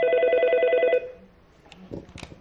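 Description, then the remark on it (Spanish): A telephone at a suicide prevention helpline rings with a bright, steady electronic trill for about a second, then cuts off, followed by quiet background noise and a few soft clicks and shuffles. “¿Teléfono contra el suicidio? ¿En qué puedo ayudarle?”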